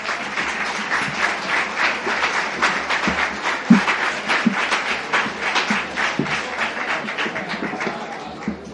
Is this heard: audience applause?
yes